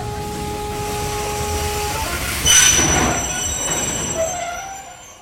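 A train rumbles steadily along the tracks while metal wheels squeal in sustained high, piercing tones, with a louder burst of grinding noise midway before the sound gradually eases off.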